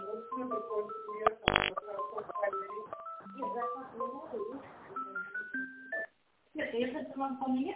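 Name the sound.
telephone dialing tones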